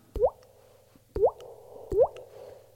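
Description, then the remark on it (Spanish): A mouth imitates water drops, with reverb added: three wet, rising plinks spaced about a second apart, each with a sharp pop and a slight reverberant tail, clear with no talking. “Oye, ¿y el agua esa de dónde te la sacas?”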